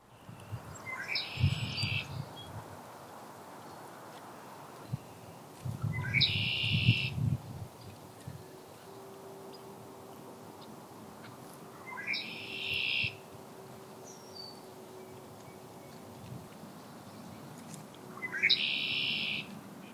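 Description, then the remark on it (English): A red-winged blackbird gives four buzzy, high trills, played back at one-third speed, each a second or so long and spaced several seconds apart, over a low outdoor rumble with no voices. “Red-winged blackbird trilling.”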